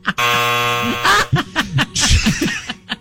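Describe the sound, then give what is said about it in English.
A loud, flat game show buzzer blares for about a second, marking a player being out in a tongue-twister game, then gives way to a burst of chuckling and laughter. “Give yourself a buzzer.”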